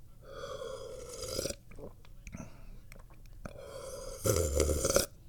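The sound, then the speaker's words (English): A voiced hiccup breaks out among soft breathy mouth noises after sipping tea, followed moments later by a second short, throaty vocal burst; no clear words are spoken. “As I hiccup.”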